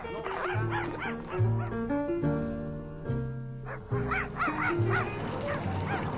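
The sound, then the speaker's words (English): A dog named Poochie, sniffing out a scent, yips, barks and whimpers in quick, excited bursts, the high-pitched calls rising and falling over steady low sustained musical notes, with no one talking. “the dog”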